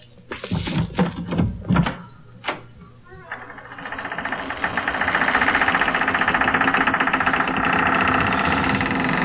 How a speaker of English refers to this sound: Here. Let me unlock the door.